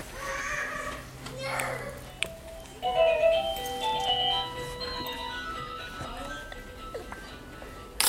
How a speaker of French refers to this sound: Alors vous voulez écouter ma sonnette?